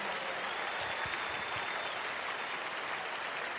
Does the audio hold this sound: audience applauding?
yes